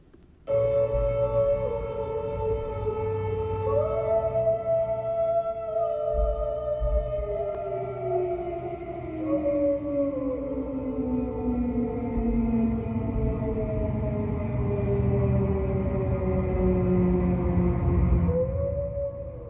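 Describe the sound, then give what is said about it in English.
A German E57 air raid siren, rated 101 decibels at 30 meters, wails steadily for the whole stretch, its layered tones sliding slowly down and back up in long, overlapping glides, loud and unbroken with no talking. “IRL, the same sound sirens simultaneously into my bedroom. German E57, 101 decibels on 30 meters.”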